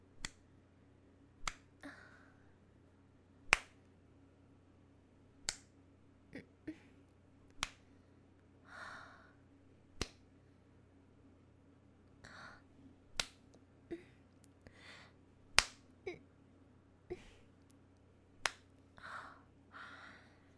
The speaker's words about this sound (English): I don't know if you can hear me slap my tits. I hope you can hear it.